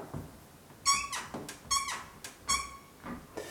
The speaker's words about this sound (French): Bon, mes loulous, comme énoncé en introduction, vous avez bien pu comprendre que cette porte, elle grince. Alors, il y a tout d'abord les gonds.